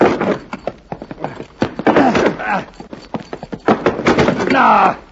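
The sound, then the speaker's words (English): Repeated heavy thuds and bangs as people shove and pound against the locked door of a tool shed, trying to break it open, loud and irregular in rhythm, with straining grunts and voices mixed in. “Let's see if we can break it open.”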